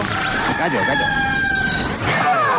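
A rooster crows loudly, one long strained call with a rising then sustained pitch that lasts a couple of seconds before tapering off.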